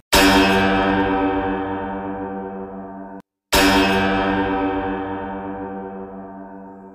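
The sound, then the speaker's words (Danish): Two loud, resonant bell strikes, each ringing out with a long, slowly fading tone full of overtones, separated by a brief silence. No voices accompany them. “Men pludselig kunne hun høre nogle klokker ringe.”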